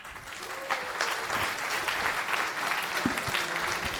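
A conference audience at FOSDEM claps steadily for several seconds to welcome the next speaker, a dense, even wash of many hands with no single beat standing out, sustained at a fairly constant loudness throughout.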